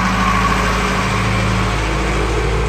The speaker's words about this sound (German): Und dann kommen sie, die 5 jungen Besetzer, schweigend, ohne Widerstand zu leisten, besteigen sie den Wagen und fahren davon.